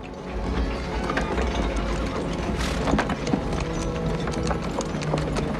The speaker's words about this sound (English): A couple of horses are being led, dragging a cart behind them.